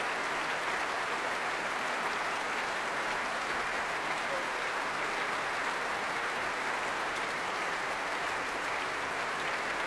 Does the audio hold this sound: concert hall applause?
yes